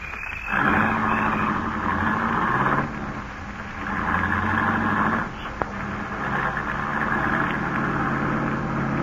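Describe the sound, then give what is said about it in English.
A new car's engine drones steadily as it drives on a steep mountain road grade, its pitch rising and falling as it revs through gear changes, with one brief click partway through and no talking. “This is a steep grade. Quit worrying. The new car handles great.”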